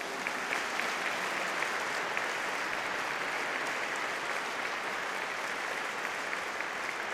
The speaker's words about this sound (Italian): Grazie al maestro Corbetta, grazie, è veramente un momento di grande elevazione spirituale. L'Istituto delle Figlie del Sacro Cuore, a lei e a tutti un applauso.